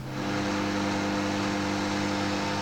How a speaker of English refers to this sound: As you can hear, it's fairly quiet. Unfortunately, with this microwave, You cannot find out how long you've got to go. There's no way to know that. So you've pretty much just got to wait.